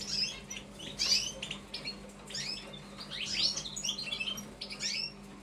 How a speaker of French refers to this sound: Les oiseaux ont ce côté majestueux du chant apaisant, de quelque chose de vivant que l'on regarde. On peut s'asseoir devant une cage et regarder un oiseau vivre.